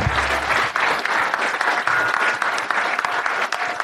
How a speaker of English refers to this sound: And a huge round of applause, please, for Alan Shipton. Thanks so much. Thank you.